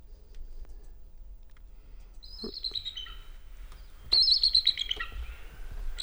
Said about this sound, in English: but not the chortle of a real bald eagle. And a real bald eagle sounds like, well, not like that. Let's hear that real bald eagle again.